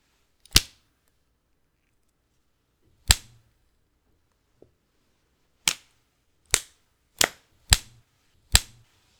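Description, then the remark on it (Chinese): Seven sharp, loud cracks of a new whip being used on a person snap out one at a time with no voices: two widely spaced at first, then five coming faster toward the end, each with a brief ringing tail. “这次的新鞭子用着不是很趁手啊。”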